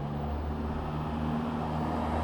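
A bus engine drones with a deep, steady rumble and a low humming tone as the bus approaches, gaining speed down a long descent in Belleville before sunrise, staying fairly loud and constant throughout, with no voices.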